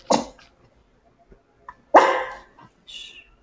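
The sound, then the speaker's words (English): A female puppy named Bella gives two sharp, high barks about two seconds apart, the second one louder with a brief yelp trailing after, followed by a faint squeaky whine. “What's the puppy's name? Bella. She's usually quiet, Bella.”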